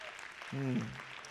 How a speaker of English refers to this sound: If you know the Lord's with us tonight, would you clap for a few seconds? Praise God.